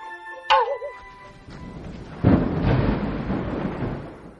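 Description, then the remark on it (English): Heavy rain pours down steadily while a loud rumble of thunder rolls in partway through, building into a broad roar that lingers to the end. “As soon as you mentioned rain, it started pouring.”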